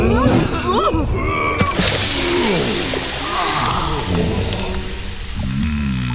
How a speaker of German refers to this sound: Er macht ein paar schnelle Schritte ins Wasser.